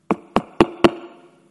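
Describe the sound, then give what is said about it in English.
Four sharp knocks on the wooden door of the house of evangelist George Jeffreys in a city of 10 million people, in an even, fairly quick rhythm, moderately loud, with a short resonant ring fading after the last one. “And he knocked.”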